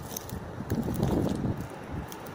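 A strong wind blows through trees under a clear blue sky, a steady rushing roar across the whole stretch, with low rumbling gusts swelling in the middle and faint, brief rustles breaking through above it. No voices are heard.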